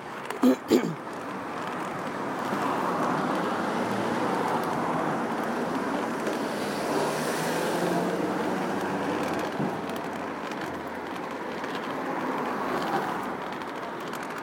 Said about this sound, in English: car stopping.